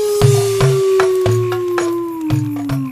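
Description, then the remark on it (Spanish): A coyote howl sound effect introducing a story: a long, unbroken howl holds a steady tone that slowly sinks in pitch, while sharp, rhythmic percussive knocks and low thumps beat underneath it. “Es solamente un efecto de sonido para presentar mi cuento, El Coyote Enamorado.”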